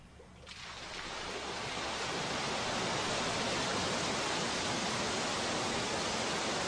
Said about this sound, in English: He's in his pool in a waterfall.